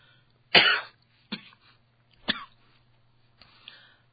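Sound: coughing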